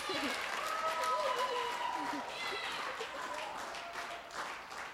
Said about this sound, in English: Okay, so just clap, everybody, just start clapping.